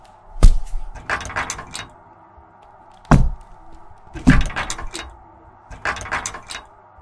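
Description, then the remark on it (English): Several heavy wooden thuds land at irregular intervals, like a door being banged or slammed repeatedly, with rattling clatter between impacts over a steady low background hum. “See, it sounds like a door.”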